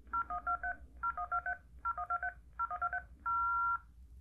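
telephone touch-tone dialing tones

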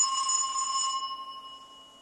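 old-fashioned telephone bell ringing

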